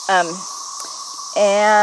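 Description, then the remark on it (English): A steady, high-pitched drone of cicadas in the grass along a road buzzes continuously in the background, while a voice briefly sounds at the start and again near the end. “I'm going to see if I can get a photo of some of these cicadas. They're all over the road in the grass where I'm standing.”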